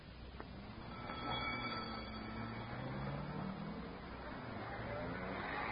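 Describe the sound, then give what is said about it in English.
An ambulance drives off to the local hospital with a steady, low engine rumble and broad road noise that hold at an even level throughout, with no siren. “The ambulance drove off to the local hospital. Dr. Mason followed in his own car.”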